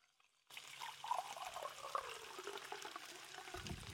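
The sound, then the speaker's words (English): Fresh water is poured steadily into a glass, a continuous splashing trickle that starts abruptly and runs for a few seconds without any talking. “Usually end it with some juice, but today I just have some fresh water, guys.”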